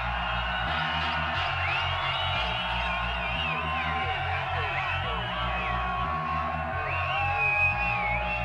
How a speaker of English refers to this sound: Yeah, the crowd's so loud, I can't even hear the fucking tune. Where's the massive?